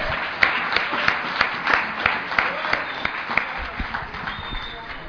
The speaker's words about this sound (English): The unsung heroes of this weekend are the Fellowship of the Spirit Committee, the guys that put this thing together. So let's all give them a round of applause.